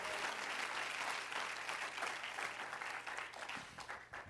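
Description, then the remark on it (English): A crowd claps together in sustained, dense applause after a preacher calls on them to clap their hands and bless God, many hands beating at once in a steady wash of sound without any voices standing out. “If you love him, clap your hands into him and bless him.”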